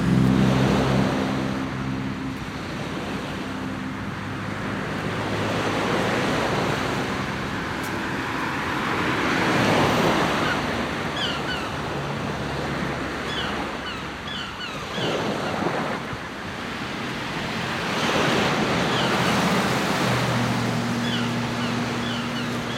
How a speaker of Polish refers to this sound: Tak, mam taką koleżankę, która właśnie mówiła, że ona tak oswaja jakby szum samochodów, że wyobraża sobie, że to są fale morskie i jakby jest w stanie wtedy to jakoś sobie zaakceptować.